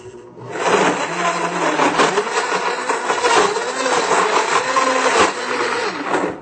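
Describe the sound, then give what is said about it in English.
A blender whirs loudly and steadily for several seconds while blending fruit, its motor pitch wavering slightly as the contents churn, with no one talking. “I put everything in a blender.”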